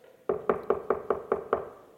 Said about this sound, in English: You ever had anybody knock on your door?